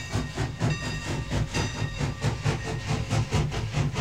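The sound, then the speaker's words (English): An original steam train in a railway museum chugs steadily, its rhythmic puffs repeating about twice a second over a constant low rumble and faint hiss, with no voices. “Here we are standing in front of some original steam trains.”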